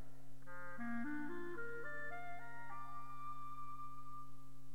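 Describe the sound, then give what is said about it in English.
A clarinet, playing the part of the squirrel in a narrated musical tale of the oak and the reed, climbs through a short run of stepwise notes, then settles on a long sustained tone, all over a steady low hum with no voices. “The squirrel by the clarinet.”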